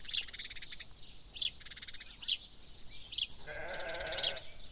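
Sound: sheep bleating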